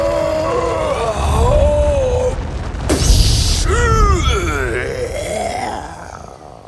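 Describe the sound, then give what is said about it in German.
A giant, explosive sneeze: strained, groaning vocal build-up over a low rumble, then one loud, booming burst midway, followed by wobbly, warbling vocal sounds fading off. “Ein gewaltiger Nieser explodiert und schießt die Freunde im hohen Bogen aus der Erde.”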